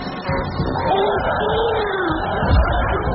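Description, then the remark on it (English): A crowd cheers and claps in a steady, dense roar of voices and applause that holds at an even, fairly loud level for a few seconds without pause. “And the audience cheers and claps.”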